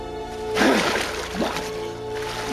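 splashing

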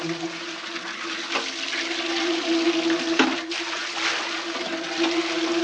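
water running

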